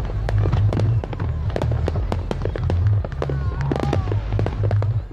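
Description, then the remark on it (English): Fireworks over Austin, Texas, celebrating the 4th of July, burst in a rapid, irregular series of sharp cracks and booms over a steady low rumble, with a faint whistling streak and crowd noise beneath. “Millions of Americans are celebrating those fireworks over Austin.”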